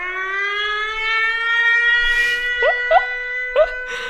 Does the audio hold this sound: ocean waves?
no